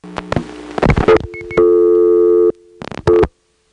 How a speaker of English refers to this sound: Now that sound at the end of the digit is a perfectly normal cut-in sound.